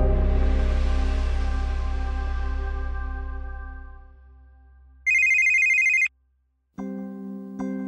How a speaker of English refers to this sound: No one likes the sound of a ringing phone in the middle of the night.